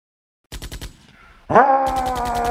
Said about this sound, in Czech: Slyšíš? Rány jako z děla. Je to tvůj strýček. Přejedl se bramborového salátu.